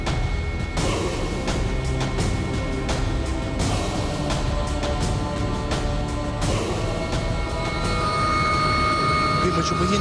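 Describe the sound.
A steady, loud aircraft engine drones throughout with a constant low roar and humming tones, while voices talk over the noise.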